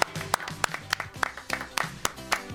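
An audience bursts into applause, with sharp irregular claps rising over a bed of cheering voices and chatter, moderately loud throughout.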